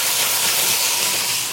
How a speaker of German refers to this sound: Endlich kommt die Dunstabzugshaube hier, Mariti, auf Touren